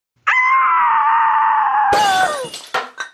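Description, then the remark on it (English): A woman carrying a bowl to the door lets out a long, piercing scream, and near its end drops the bowl, which crashes to the floor and shatters, followed by a few sharp clattering bits of breakage. “was bringing the bowl to the door and she screamed and dropped it.”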